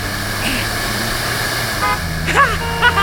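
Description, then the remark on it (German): A car engine hums steadily while the car overtakes on the road shoulder past a car stopped at a red traffic light, and a couple of brief horn toots sound near the end. “Ich überhole auf dem Seitenstreifen.”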